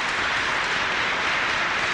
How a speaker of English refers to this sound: At several points, you hear raucous applause, clearly from the Nation of Islam members, based on the point that Malcolm X makes.